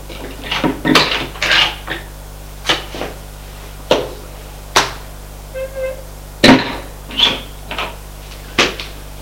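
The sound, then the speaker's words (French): A door to a ground-floor winter lounge, a greenhouse full of exotic plants, being opened, heard as a string of sharp clicks and wooden knocks spread over several seconds, with a brief squeak midway. No one speaks. “Il ouvre une porte.”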